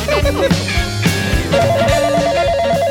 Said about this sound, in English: The Yak Shack line is ringing. The Yak Shack line is ringing.